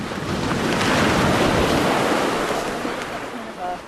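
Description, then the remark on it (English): Loud, continuous roar of ocean waves surging and crashing against rocks on a rising tide, with wind buffeting the microphone throughout and a faint voice briefly heard near the end. “Eventually, the carcass is tied off with some green rope to prevent it from being carried away by the waves, which crash against the rocks, soaking some of the necropsy team.”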